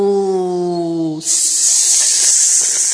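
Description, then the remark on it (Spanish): A sustained, loud, breathy hiss like a viper's, running steadily for nearly two seconds right after a brief, steady tonal wail cuts off. “¡Zorro y víbora!”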